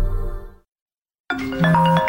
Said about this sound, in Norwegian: Det her er lyden af en kunde, der ringer forgæves, og som nu finder nummeret på en konkurrent.